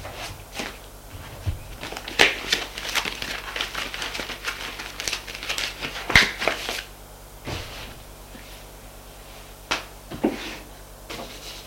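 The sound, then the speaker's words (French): Papers rustle and shuffle in quick, uneven bursts of crinkling, with a few soft knocks as they are gathered and put away into a drawer, no voices present. “Il range ses papiers.”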